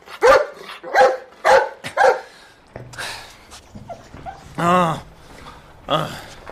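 A dog caught urinating on a flokati rug barks four times in a quick, loud burst, then follows with softer whines and a drawn-out, higher yelp before trailing off.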